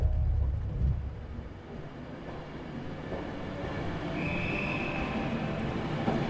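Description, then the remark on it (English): A branch line train out of Carlisle rumbles steadily along the track, a continuous low clatter and roar with a brief high-pitched squeal partway through, fairly loud with no voices. “Walter travels up to Carlisle and then moves onto a branch line train.”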